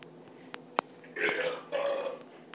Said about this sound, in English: And he burps, too, so be very careful with that.